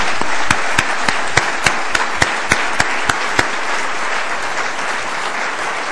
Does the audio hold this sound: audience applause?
yes